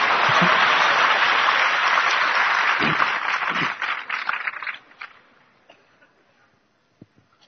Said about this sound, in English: Much louder, please. Thank you. Please clap for yourself.